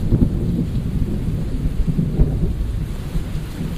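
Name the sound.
rumbling thunder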